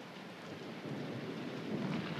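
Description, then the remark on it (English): Steady, dense rain hisses throughout, with a low, rolling rumble of thunder swelling toward the end. No voices, just the storm filling the space at a moderate, even loudness. “Did you ever watch the coming of a storm?”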